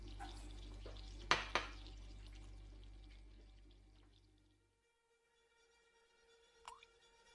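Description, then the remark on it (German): Coffee pours steadily into a cup for a few seconds, broken by two quick clinks, then fades out; after a brief pause a spoon taps once against the cup. “Na komm, ein bisschen Kaffee vertreibt deine Geister.”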